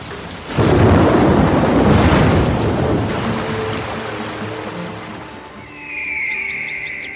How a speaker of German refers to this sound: Ein starkes Gewitter zieht über den Nationalpark. Wir haben schon ziemlich lange nicht mehr so ein Unwetter erlebt.